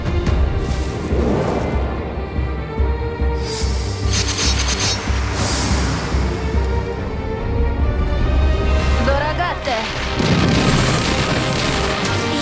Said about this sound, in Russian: Пушечным огнем.